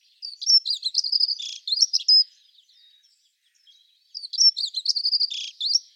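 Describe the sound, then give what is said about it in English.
A dunnock sings two rapid, squeaky warbling verses, each about two seconds long, separated by a brief pause. The bird sounds clear, with no other sounds around it. “it's quite a squeaky little verse that shuttles along at really rapid pace.”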